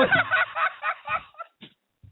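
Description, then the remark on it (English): A harsh, strained chicken squawk, like a bird being choked, loud in a rapid run of raspy cries for about a second, then a few short fading clucks, coming from the bushes. “Well, it sounds like a chicken is being choked.”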